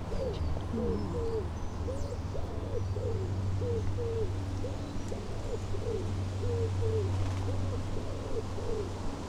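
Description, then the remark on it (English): A pigeon coos over and over in a steady rhythm, soft repeated calls running throughout against a constant low rumbling drone in the background. “Pigeon from nowhere.”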